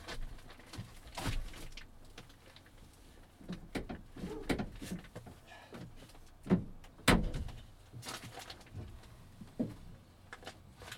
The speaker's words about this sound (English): Hang on, I'm going to close the van door, which is not what I wanted to do, because I wanted to be able to see the landscape outside. But I know they're attracted to the LED lights, and I'll explain that in a minute. Let me just close these doors.